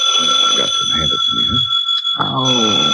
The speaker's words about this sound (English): Hand me the phone, will you, Angel? Don't answer it, Mike. Let it ring.